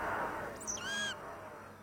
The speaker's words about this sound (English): Outside the window, look. Thousands and thousands of birds.